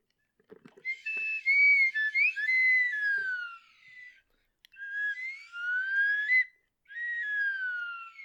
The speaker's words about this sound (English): No, the closest thing we have is a slide whistle, but I can't even find it.